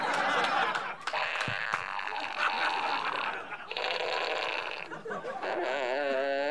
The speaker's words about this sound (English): I start right off with my favorite item. It's a sound effects fart fanfare.